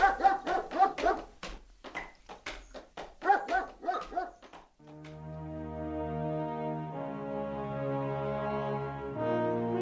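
A dog named Kamitirio barks rapidly and repeatedly for several seconds, then falls silent as a steady, low droning tone swells up and carries on to the end.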